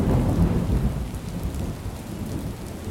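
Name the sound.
heavy rain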